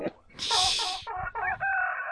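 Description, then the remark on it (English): A rooster crows loudly in a long, harsh cock-a-doodle-doo, with a burst of hissy noise at the start, then chickens cluck alongside. No one speaks. “I got some chickens. I'm trying to offload some chickens.”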